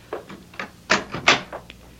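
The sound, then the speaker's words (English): A door being closed: a string of soft knocks and rattles, then two louder, sharper clunks in quick succession and a faint final click, with no voices. “Yeah, close the door, Topa.”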